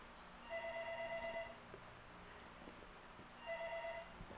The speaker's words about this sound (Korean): 끊어졌죠. 전화 왔는데 전화 끊어졌어.